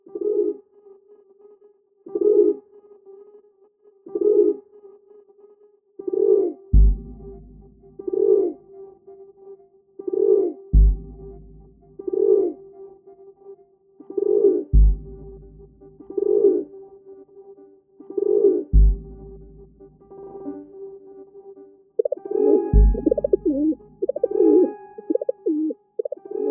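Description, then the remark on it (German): A feral city pigeon coos repeatedly in a steady rhythm, low throaty notes repeating about every two seconds, with a few soft thumps and a busier burst of cooing near the end. “Sehr eindeutig, das war eine Stadttaube.”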